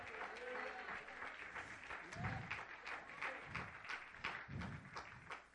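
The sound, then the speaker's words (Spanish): An audience claps steadily, a dense wash of applause lasting several seconds, with a few soft thumps and faint voices mixed underneath; the applause is given to God. “Denle un aplauso a ese Dios que no te va a desamparar.”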